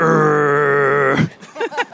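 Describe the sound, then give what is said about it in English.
A person imitates the engine of a Dodge Ram pickup truck with a loud, steady, buzzy vocal growl held for over a second, then breaks into a few short voiced rumbles that rise and fall. “What sound would this car make? Something like that, like a growl.”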